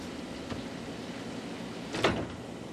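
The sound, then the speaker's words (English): A window is closed against the sound of rain, sliding shut with a short scraping whoosh and soft thump, preceded by a faint click, over a steady low background hiss. No one speaks. “You mind if I close the window?”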